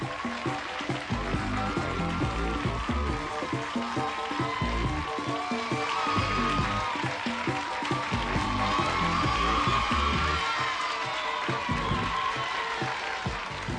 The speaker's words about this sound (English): Boy, what an audience. That's nice to hear you clapping and yelling there.